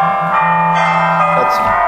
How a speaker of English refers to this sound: That is my telephone, not my bell.